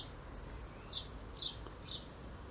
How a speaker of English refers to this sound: Hello, Mrs. Blackbird, how are you? Yes, I hear you and I see you. What? He's just flew up on the fence behind my head.